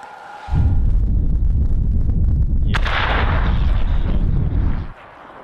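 An FPV drone carrying a shaped-charge (cumulative) munition is steered into its target: a sudden heavy explosion erupts into a sustained, loud rumbling roar lasting several seconds, with a sharp crackling burst midway through, then cuts off abruptly. No voices are heard.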